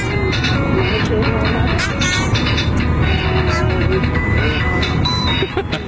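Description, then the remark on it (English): A tinny electronic musical toy, held by a baby sitting in a car seat, plays a repetitive jingly tune inside a moving car, steady and fairly loud over a constant low road rumble, with faint voices underneath. “You know, it has built-in rhythm. Yes. And built-in tunes. A lot of repetitious notes.”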